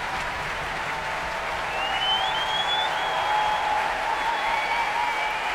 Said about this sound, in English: Applause for tonight's conductor, John Wilson, returning to the stage here at the Royal Albert Hall.